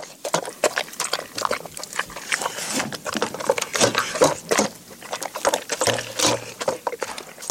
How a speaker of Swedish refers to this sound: det måste ha varit en ganska stor jycke som … säger så här